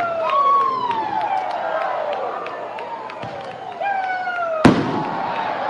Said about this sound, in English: A massive firework goes off beyond right.